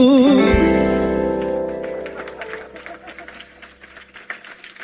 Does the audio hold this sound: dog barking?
no